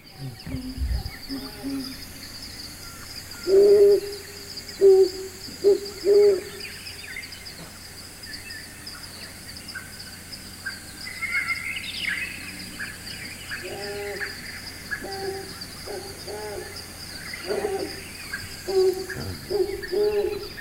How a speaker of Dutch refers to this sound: Tussen alle andere vogels door. Ja. En wat ook heel mooi is, is het geluid van de Palestijnse bosuil. Die kan ik nog wat duidelijker laten horen.